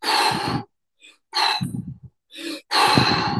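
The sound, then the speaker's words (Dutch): Forceful breaths in and out during a hypoxic breathing exercise, done 30 times with active inhalations and exhalations, several loud rushing bursts with short pauses between, each breath airy and strong across a wide range. No talking. “Dat is een actieve ademhaling, maar ook een actieve uitademhaling.”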